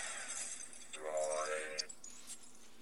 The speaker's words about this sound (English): And that was me getting a message.